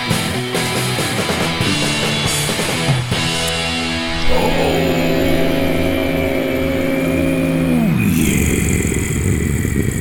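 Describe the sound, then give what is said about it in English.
A car engine runs loudly and steadily, its low droning hum shifting pitch a couple of times as if revving up and then settling down, with a clattery mechanical edge throughout. “I had to go turn the car off.”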